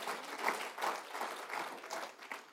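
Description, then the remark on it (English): An audience breaks into applause, a steady wash of many hands clapping at once with slight swells in intensity, lasting a couple of seconds with no voices over it. “That ought to give you, it deserves an applause, isn't it?”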